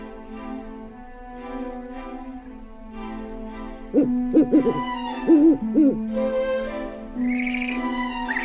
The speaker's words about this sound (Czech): Budimo vas pričom Božidara Mandića Sova u odžaku.